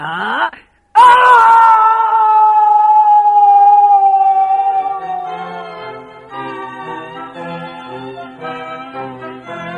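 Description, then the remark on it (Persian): A voice imitates a wolf howling as the wolf falls into a pit: a short cry, a sudden thump, then a long, loud, wavering howl that slowly sags and breaks into uneven moaning wails. “خود گرگ افتاد توی چاله و خرگوش برگشت پیش حیوانای جنگل.”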